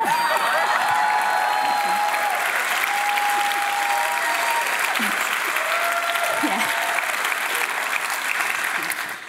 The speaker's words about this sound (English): This is the part where you clap.